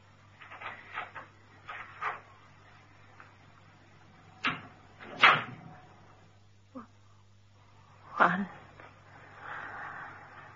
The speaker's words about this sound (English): I'm going now. Start to count when the door closes.